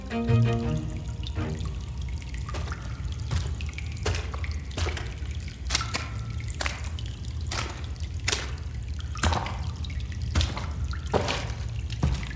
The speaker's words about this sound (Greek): Και στα 200 μέτρα περίπου βάθος συναντάς τον κολέκτορα, συναντάς αυτό το υπόγειο ποτάμι. Ένας αγωγός, ας το πούμε, ο οποίος τροφοδοτεί κάποια υπόγεια δεξαμενή πιο βαθιά στη γη.